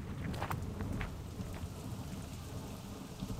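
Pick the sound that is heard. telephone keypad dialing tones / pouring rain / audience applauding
pouring rain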